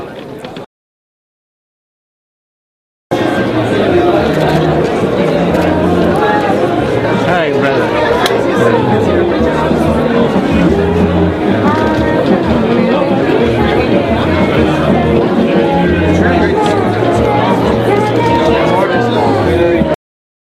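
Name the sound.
crowd chatter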